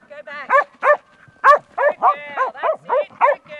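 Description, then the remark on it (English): A two-year-old Kelpie working dog named Jem barks excitedly during training in a sheepyard in southern New South Wales, letting out around ten sharp, high-pitched barks in a quick, uneven series with brief gaps between them, loud and clear with no talking. “putting a two-year-old Kelpie called Jem through her training paces.”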